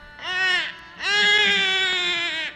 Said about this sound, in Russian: Лишь после того, как Васудева запер все двери и ворота, проснулись стражники и услышали плач новорожденного ребенка.